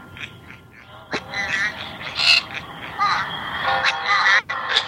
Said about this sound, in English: Were those angry birds, Rob? Those were the angry birds. I'm sorry. I'm hooked on angry birds.